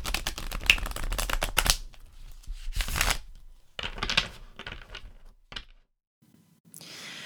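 Tarot cards are shuffled in quick, crisp riffles: a dense run of rapid papery snaps, then several shorter bursts separated by pauses, ending with a soft rustle. No voices.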